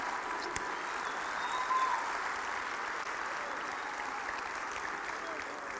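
An audience applauds steadily for several seconds, a dense wash of clapping hands that stays fairly even in loudness throughout, with no voices standing out above it.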